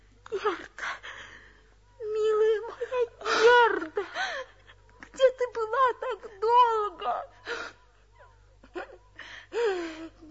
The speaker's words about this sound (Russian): Герда, что с тобой? Ты плачешь?